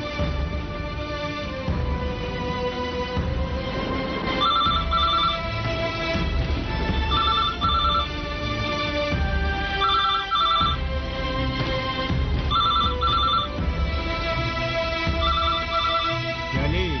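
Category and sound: signal or alarm, telephone ringing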